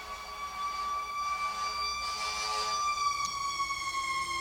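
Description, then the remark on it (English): An emergency vehicle siren sounds outside, a steady high wailing tone held throughout that slowly drifts lower in pitch, fairly prominent and without anyone talking over it. “In England, they once prosecuted some ambulance men and fire brigade guys because when it got hot, they used to go to the ice cream shop and they used to put on their sirens.”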